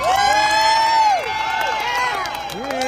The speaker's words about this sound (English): So how about a round of applause for Herschel and his family for putting up with all this crap?